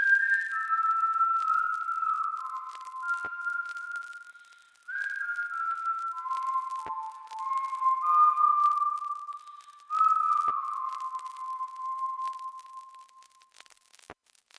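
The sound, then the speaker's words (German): A person whistles a slow, wavering melody alone, the pure tone sliding between sustained notes in several phrases with brief pauses, fairly clear. “habe ich einfach irgendwie das vor mich hingepfiffen und dann meinte Leo so, ey, cool, nimm es doch mal auf”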